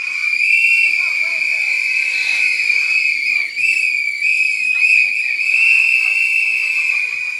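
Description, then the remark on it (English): A dense chorus of shrill whistles blown at once by many audience members answering a poll, sustained and loud for several seconds, with faint crowd noise and voices underneath. “Does anybody, can you blow your whistle if you comfortably, happily use sex toys with your partner?”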